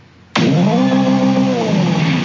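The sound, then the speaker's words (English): An engine sound bursts in abruptly and holds steady and loud, a buzzy harmonic drone with a slight pitch swell like a revving car, with an artificial, game-like quality and no talking. “You want to hear what it sounds like? Let me hear the fake car.”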